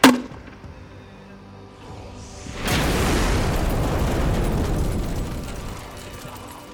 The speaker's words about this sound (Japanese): 炎の尾を引いて飛び、敵 APC が爆発炎上、黒煙が吹き上がり戦場全体を黒く包み込んだ。